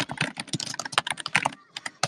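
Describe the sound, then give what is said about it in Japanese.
Rapid clatter of keys on a computer keyboard, dense and continuous with a brief slowdown near the end, fairly loud, with no voices. Someone is typing replies to a backlog of messages. “もうやひやぎくって打ちすぎてもう狂っちまうよ。”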